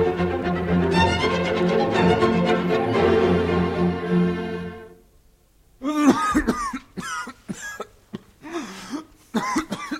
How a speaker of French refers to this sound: Voilà une cruelle toux. Quel diable de toux. Aussi tu t'en es donné du vin de l'hôtesse jusqu'au fond de la gorge.